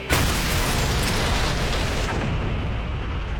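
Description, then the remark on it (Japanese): A loud, sudden boom bursts out at the start and rolls on as a heavy, rumbling roar that sustains for a few seconds before easing slightly, like a big explosion or firework blast. “あれ、何か聞こえなかった。 爆発、花火。”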